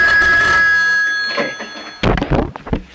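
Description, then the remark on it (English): A telephone rings once with a loud, sustained metallic tone that fades out over about a second, followed by brief clattering and handling noises. “Before the phone rang, we were talking about...”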